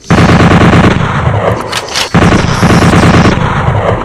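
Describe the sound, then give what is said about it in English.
Rapid automatic gunfire from an automatic pole gun in a video game, a dense rhythmic stream of loud shots with a brief pause midway before the burst resumes, no voices. “Automatic pole gun. There it is. Automatic pole gun.”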